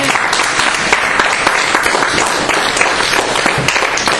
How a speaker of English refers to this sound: Are y'all clapping because that's the end?